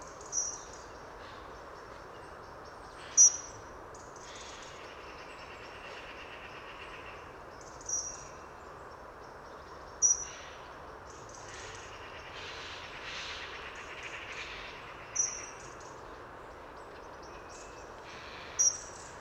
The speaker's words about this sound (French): Petit cri fin aigu très intéressant de l'accenteur mouché.